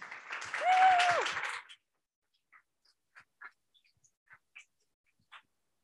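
Audience applause welcoming the co-founders of Imbue to the stage at an event hosted by Notion: a short burst of dense clapping with a brief whistle or cheer rising over it, then quickly thinning to a handful of scattered, isolated claps before falling silent.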